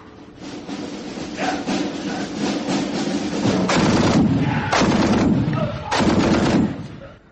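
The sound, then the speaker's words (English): Soldiers advance and fire their guns on command in a sustained burst of gunfire. Rapid, overlapping shots crackle continuously, with several louder sharp bursts standing out toward the end. The sound is dense and loud throughout, with no voices. “Right, men. Advance and fire.”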